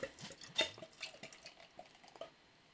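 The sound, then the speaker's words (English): Leffe Blonde beer, 6%, pours from a small 330 ml bottle in quiet, irregular glugs and splashes, a run of liquid bursts that gradually thins out toward the end, with no voices. “Let's get it poured. Let's get it cracked.”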